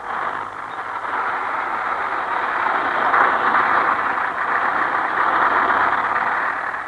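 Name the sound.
bus engine running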